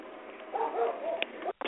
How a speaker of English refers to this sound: Yes, I just muted you real quick okay. so you didn't hear the dog barking.